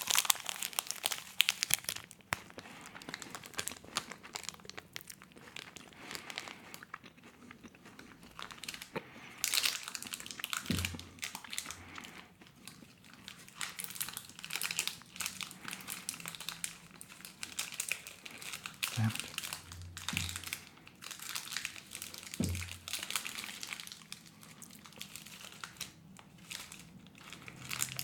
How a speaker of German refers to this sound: Ich esse den Schokoriegel jetzt doch nochmal auf. Einfach nur, weil es so schön war. Jetzt muss ich ein bisschen näher ans Knisterpapier ran, sonst saue ich mir hier alles ein.